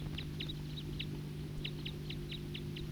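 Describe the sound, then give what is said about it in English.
Type 2 birds, a pair perched in a tree overhead, call in a quick series of short, high chirps, roughly nine notes in irregular rhythm, moderately faint, over a steady low hum. “And these are the type 2 birds.”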